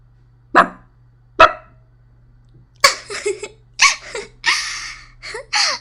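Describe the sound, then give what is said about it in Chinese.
A person imitates a dog barking: two sharp, separate woofs, a short pause, then a quicker run of five or six breathy, yelping barks over a faint steady hum. “学两声狗叫，我听听。”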